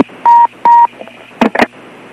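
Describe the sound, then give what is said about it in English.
Two short, steady electronic beeps over a hissy phone-line background, followed by a cluster of sharp, crackly clicks, like a long-distance telephone connection being routed. “I mean, you hear all that extra clicking and stuff going on there. That is like way long distance with extra beeps and extra clicks.”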